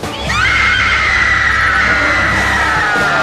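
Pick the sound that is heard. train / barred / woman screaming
woman screaming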